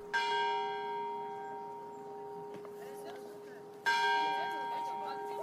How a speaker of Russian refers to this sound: Словно в знак того, что решение окончательно принято и обсуждению более не подлежит, с соборной площади раздался первый удар колокола.